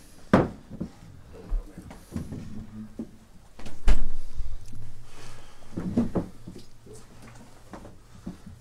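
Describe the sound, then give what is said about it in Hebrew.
Chairs are set down and shifted into place, one here and one there, for a lesson, giving a few scattered wooden knocks and scrapes, one sharp thud in the middle, with faint low murmuring in the background. “תשימו כיסא אחד פה, אחד פה, והשם יעזור לנו שנוכל לנהל את השיעור.”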